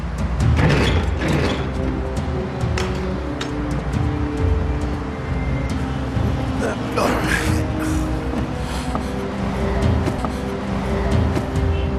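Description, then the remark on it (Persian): A truck's engine drones steadily from inside the rear cargo area as passengers ride in the back of the truck toward Dallas, a constant low rumble with occasional rattles and clanks, and muffled voices faintly beneath it. “اگه میخواین با هم باشین باید بریم پشت کامیون.”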